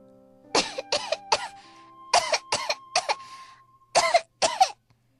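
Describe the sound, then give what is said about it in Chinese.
Hard, forceful coughing from someone whose mouth is full of sand: three rapid coughs, another three, then two more, harsh and raspy with brief pauses between fits, and no other sound around them. “他嘴里灌了好多的沙子，他使劲儿地咳嗽着。”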